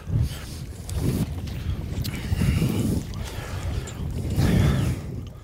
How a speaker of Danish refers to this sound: Der er jo god gang i vinden herude, men det har ikke været helt slemt. Jeg frygtede lige pludselig, at det skulle blæse meget op.